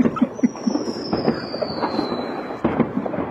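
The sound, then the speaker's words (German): A small, feeble firecracker pop outdoors in the dark amid a steady wash of crackling and hiss, with a thin whistling tone gliding slowly downward. No one speaks. “Aber das war ein ziemlich armseliger Böller.”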